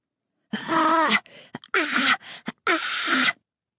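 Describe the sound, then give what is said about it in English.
A person panting for breath on the far side of a wooden fence in a yard: three strained, breathy gasps in a row, each rising into a rough, hoarse whine with harmonic wavering, separated by short ragged intakes of breath; loud, no talking. “It's a wheezing gasp from the far side of one fence. It sounds human and repetitive. Someone is panting for breath.”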